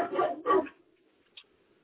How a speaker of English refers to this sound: sorry, my dog's going nuts. Okay, sound a big dog. Is that what dog is it?